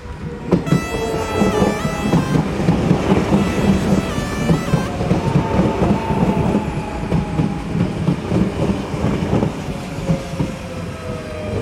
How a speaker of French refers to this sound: Le stade de Feltham. À côté, il y a les trains, les rails.